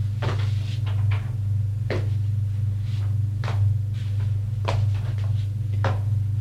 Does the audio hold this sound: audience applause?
no